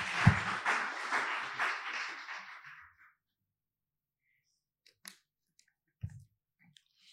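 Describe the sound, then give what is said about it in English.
An audience claps together for God in a dense, crackling burst of applause that lasts a few seconds and fades out, followed by near silence broken only by a couple of faint knocks. “Let's give God a hand clap. He deserves a hand clap.”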